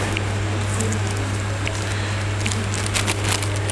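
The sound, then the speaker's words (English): Paper pages that are stuck together peel apart with soft crackling as someone turns to the Book of James. A few brief, sharp ticks come toward the end, over a steady low hum. No one speaks. “Ooh, paper sticking together.”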